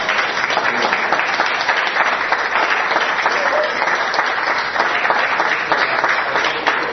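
A crowd applauds steadily, dense overlapping claps forming a loud, even wash of sound that holds for several seconds without fading.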